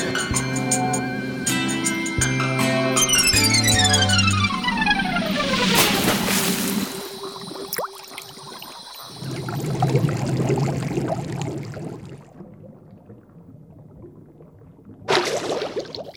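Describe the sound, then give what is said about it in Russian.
Water gurgles and bubbles in a steady wash for several seconds, after a musical passage with a long descending swoop and a sudden splash-like burst; a brief brighter burst near the end. “Как тут мокро. Я умею пускать пузырьки.”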